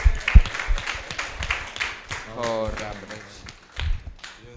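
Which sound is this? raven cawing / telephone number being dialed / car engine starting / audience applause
audience applause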